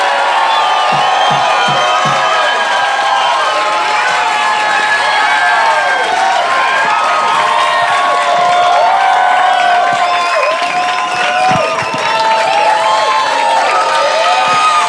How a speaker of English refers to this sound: How about a big round of applause for Brian Posey?